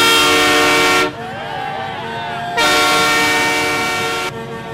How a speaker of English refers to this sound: In 2022, tractor trailers filled the streets of downtown Ottawa, blasting their horns at all hours.